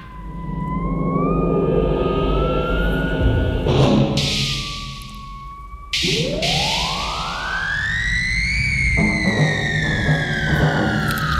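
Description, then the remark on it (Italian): A loud siren wails, its tone sliding down and then sweeping steadily upward in a long rising glide, over a low rumbling background with a couple of sharp noisy bursts and no voices. “Sentite la sirena.”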